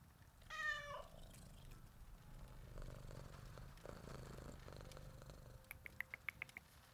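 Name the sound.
cat purring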